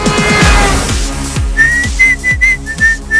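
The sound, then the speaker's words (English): A whistled tune rises over a steady drum-driven music track, its bright notes coming in short repeated phrases after a brief instrumental lead-in, clear and fairly loud. “I tried. No, I can't. I'm a terrible whistler.”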